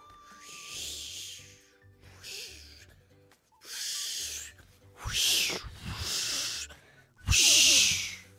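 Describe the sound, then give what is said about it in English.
A voice imitates ocean waves in a seashell with a series of breathy, hissing whooshes that swell and fade, about six surges, growing louder toward the end. “I hear the ocean in the shell.”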